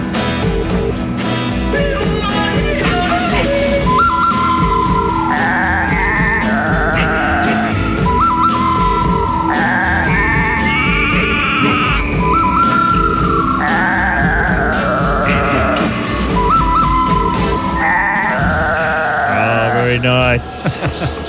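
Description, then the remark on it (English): Goats bleat repeatedly over a loud, busy piece of music, the Talkback Mountain theme, their wavering cries rising and falling in a rhythmic pattern that runs through the whole track. “Those goats need help.”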